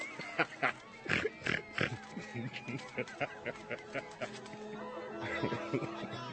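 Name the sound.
pig oinking and grunting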